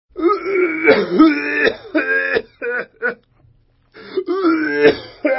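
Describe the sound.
A long, drawn-out coughing fit of a rabbi, hoarse and groaning, voiced by a person imitating it, loud, in two bouts separated by a brief pause, coming from the direction of the synagogue.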